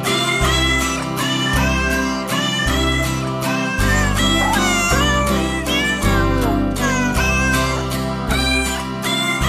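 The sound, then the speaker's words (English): A loud, upbeat radio bumper jingle for the Animal World show on Alternative Talk 1150, built from cat meows, with repeated sliding meows riding over a steady bass line and rhythmic beat for the whole stretch, with no talking. “Well, we got one more time to hear a little bumper jingle, cats.”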